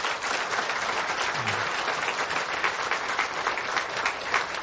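An audience breaks into sustained applause to thank the many behind-the-scenes helpers (sound room, ministers, kitchen, parking guides), a dense, steady wash of many hands clapping at an even loudness for several seconds, with no voices standing out.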